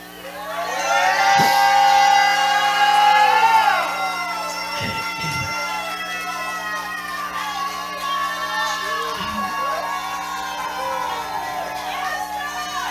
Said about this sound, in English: Right now I say unto you, give me a shout of victory.